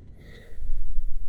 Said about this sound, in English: Take some deep breaths with me. Just relax. Listen to the sound of my breathing.